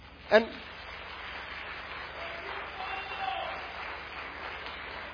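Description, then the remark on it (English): An audience applauding the Word of God during a sermon in church, a steady wash of clapping that fills the room for several seconds, with a brief sharp sound at the start and faint voices mixed in. “Let's be very clear, we're clapping for the Word of God because it doesn't matter which monkey opens the book.”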